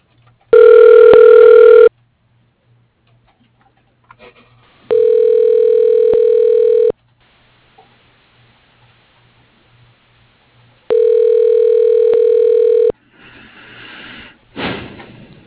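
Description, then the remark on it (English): Steady electronic ringback tone on an outgoing phone call to Reese Construction, three even two-second pulses separated by long silent gaps, followed by a brief click and rustle of the line picking up. “Okay, well, I'll look into this for you, and then I'll give you a ring back.”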